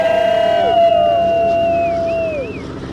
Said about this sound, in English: Four Beavers took to the skies above the Naknek River in pretty tight formation for a flyby and to spread his ashes in front of dozens, huddled tight on a dock below.